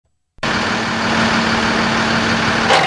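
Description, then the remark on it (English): A big vat truck that collects used cooking oil from restaurant dumpsters idles in a downtown alley after a moment of silence, a loud, steady engine rumble with a constant droning hum and no voices. “drives one of those big vat trucks that has a long plastic tube that comes out the back, and he uses it to suck up all the used cooking oil waiting in the dumpsters in the alleys behind the restaurants.”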